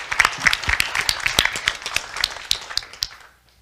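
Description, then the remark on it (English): A crowd breaks into applause, dense overlapping hand claps at a brisk, irregular pace, fairly loud at first and then thinning out and fading away within a few seconds. “I mean, big round of applause.”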